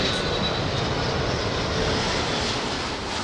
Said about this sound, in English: Let the plane go by.